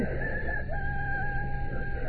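A rooster crows in one long, loud, sustained call, its shrill, steady pitch holding through the whole two seconds, with no talking.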